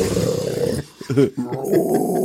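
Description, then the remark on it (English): A man's voice lets out a loud, raspy heavy-metal-singer-style growl, then breaks off briefly before more rough, strained vocal sounds follow. “No, I could be a heavy metal singer if I didn't have to cough horribly after that.”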